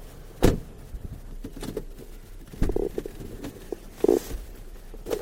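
A few heavy, thudding impacts of a car door being shut, spaced a second or two apart, with a faint mechanical whir and low rumble between them.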